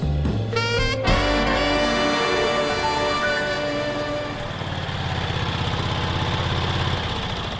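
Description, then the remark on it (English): A small scooter engine idles steadily as its riders arrive at Cliffo, a constant buzzing putter with a brief revving burst near the start, then settling into an even rhythmic chug. “We've arrived at Cliffo, but bloody hell, I can hardly climb off the scooter.”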